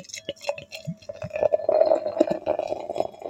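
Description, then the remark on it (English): Dakar Brooklyn beer, a bright golden beer, pours into a glass, starting with a few gurgling glugs and swelling into a steady, hollow fizzing stream that holds a ringing tone as the glass fills. “So let's pour it.”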